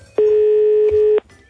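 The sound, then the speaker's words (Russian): A single steady electronic telephone tone, like a dial or ringback tone, sounds loud for about one second before cutting off abruptly, with no voices. “Возьми трубку”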